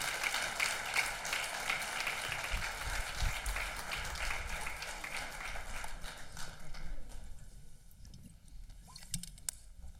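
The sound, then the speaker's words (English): An audience breaks into steady applause as panelists come forward, a dense patter of many hands that holds for several seconds, then fades out to a few scattered claps near the end. “How about a round of applause as you people step out of their comfort zone?”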